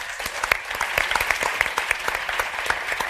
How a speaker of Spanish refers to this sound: Un aplauso para ella.